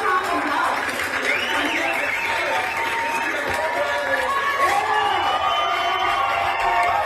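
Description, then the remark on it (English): An angry crowd at a Williamson County Board of Education meeting over masks shouts and calls out at once in a steady, loud roar of overlapping yells that lasts the whole time, with no single speaker standing out. “You can hear the audience, and of course, they're angry, right, at the Williamson County Board of Education.”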